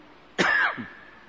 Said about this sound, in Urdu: ابھی اس وقت اتنی آواز میں مجھ سے نہیں نکل رہی، اتنی ڈانٹ، ایسی ڈانٹ، مسلسل ڈانٹ، دیکھیں کھانسی ہوگی.